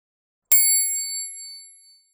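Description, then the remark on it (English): A single bright doorbell chime rings out once, clear, its metallic tone lingering and slowly fading over about a second and a half, with nothing else around it. “But then, ding dong!”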